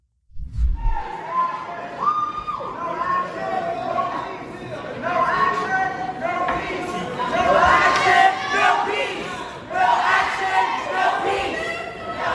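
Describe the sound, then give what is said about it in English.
Representative Justin Jones shouts the chant "no justice, no peace" through a bullhorn, the amplified voice loud and harsh, rising over a noisy crowd that yells and cheers continuously throughout. “He's shouting through a bullhorn, no justice, no peace, and he is holding up a sign.”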